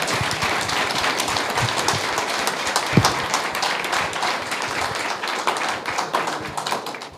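audience applause

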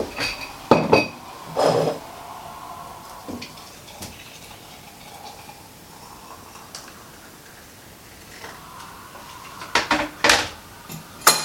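pouring tea

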